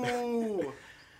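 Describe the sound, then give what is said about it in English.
A short vocal howl by several people imitating a wolf, everyone howling: a sustained sung tone that slides downward and fades after about a second, with no other talking. “Are we all howling or are they just help me intensify? Everyone's howling.”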